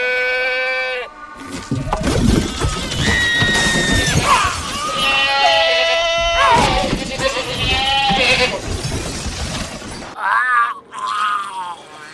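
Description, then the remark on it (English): An angry goat bleats loudly and harshly in repeated, wavering cries, sounding agitated, with a crashing clatter mixed in through the middle as someone startled falls into a trash can, and brief quieter bleats at the end. “Well, she is just a goat.”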